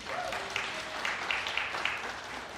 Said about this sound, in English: I'm kind of humbled by that applause. That was awesome.